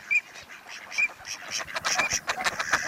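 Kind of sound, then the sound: bird, dabbling duck calls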